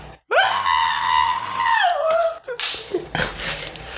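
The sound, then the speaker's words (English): A voice imitates a woman's high, sustained scream in a Baptist church, lasting over a second, wavering and then dropping in pitch, loud, followed by breathy noisy bursts. “She just up there... Having a whole Baptist fit, y'all.”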